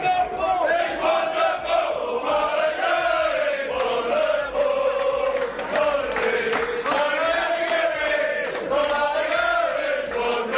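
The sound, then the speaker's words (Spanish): A large crowd of Málaga football fans chants loudly in unison in Oxford before their team's match there, a sustained sung melody that rises and falls in steady phrases and fills the whole stretch without a break. “Y quiero que escuchen, Mónica, este grito que tenía lugar precisamente en Oxford antes del partido.”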